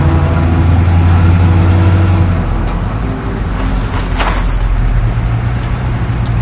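A car engine hums steadily, its tone shifting as it settles after pulling into a motel parking lot, then a single brief door clunk comes partway through as a man gets out of the car while the motor noise carries on underneath.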